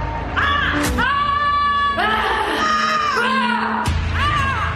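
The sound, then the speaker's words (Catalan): Several women players shout and yell in long, high-pitched cries, one after another with brief breaks, loud and sustained like battle cries, with no other talk, in a promotion for the Atlético de Madrid vs Barça women's match. “La promoció parla d'un crit, i llavors surten les noies cridant.”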